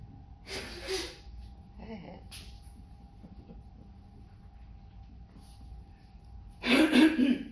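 Someone blows their nose in two noisy, breathy bursts, a short one near the start and a louder, longer honk at the end, with a faint steady hum in between.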